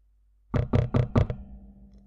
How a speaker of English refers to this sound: Then, a knock at the door.